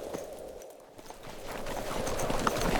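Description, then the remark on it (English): The hooves of a big gray horse, ridden away by a man, clip-clop in a steady, uneven rhythm on hard ground, growing slightly louder over a low background rumble, with no one speaking. “He reined the big gray horse around and headed out again the way he'd come.”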